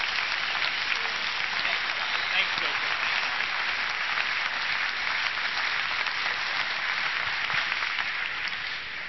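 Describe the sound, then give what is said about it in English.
An audience applauds in a dense, steady wash of many hands clapping, holding a constant loudness for about nine seconds before easing off slightly at the end. “Would you give all three of these folks a big round of applause for help?”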